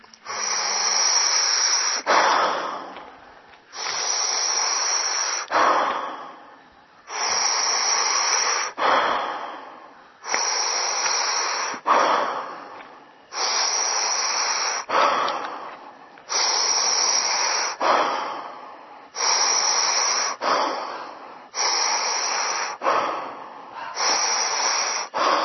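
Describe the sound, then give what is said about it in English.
Loud, forceful breaths repeat in a steady rhythm, roughly one every two and a half seconds, each a broad noisy rush of air, as a group breathes together in unison during a breathing exercise. No one speaks. “Keep coming back to the breath.”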